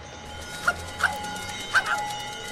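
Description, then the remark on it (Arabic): A dog with a bell hung on its neck, which runs after people, gives four short, sharp barks at uneven intervals, the last two close together, fairly clear over a steady low background hum. “إن هذا الكلب يؤذينا جميعاً، يجب أن نفكر ونتدبر في أمره.”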